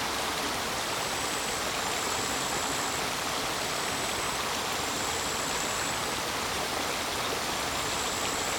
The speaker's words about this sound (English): And just feel how this sound journey of running water and life around them can transform our reality just by simple listening.